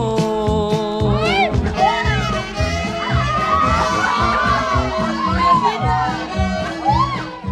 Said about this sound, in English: On the dance floor, the DJs let out their gritos. It's their rallying call. It tells the crowd, the Chulitas are here to combat gender and cultural barriers one record at a time.